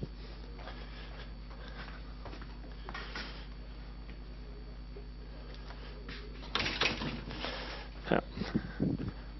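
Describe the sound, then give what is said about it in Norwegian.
A door is shut, with a rattling burst of handling followed by a few short knocks and clunks over a steady hum and faint background murmur. “Jeg kan I alle fall lukke døra.”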